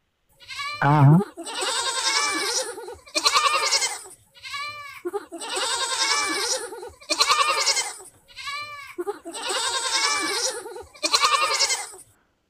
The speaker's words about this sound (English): Some goats. Yes, ma'am. Some kids, actually. They were baby goats.